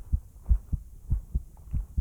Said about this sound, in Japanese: ハデスの心臓の音聞こえますか？前に本で読んだんです。心臓の音には人間を安心させる力があるって。